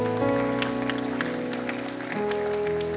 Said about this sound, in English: Let's give these folks a big, big hand clap as they're coming.